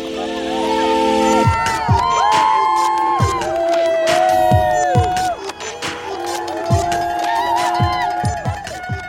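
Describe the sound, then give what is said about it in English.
A packed crowd of people on a dock cheers and yells continuously at a race finish line as the racers sprint in, with overlapping shouts and whoops rising above a dense, loud roar of voices throughout. “You could hear, it was just packed, and they were just cheering and yelling, and we were just sprinting to the finish line, and I'm just yelling as loud as I can for them to hold water, which is our command to stop.”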